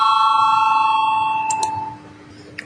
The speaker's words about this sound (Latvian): Lūdzu zvanu, balsosim par 18. deputāta Gurzeme priekšlikumu. Lūdzu balsosim.